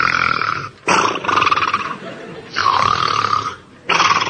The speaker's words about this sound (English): But Nanny's snoring kept him awake.